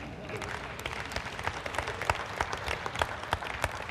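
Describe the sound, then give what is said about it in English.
An audience claps steadily, a dense wash of many hands with sharp individual claps popping out, sustained and fairly loud throughout with some murmuring underneath. “I didn't expect anybody to put their hand and clap, and some of y'all, don't change that.”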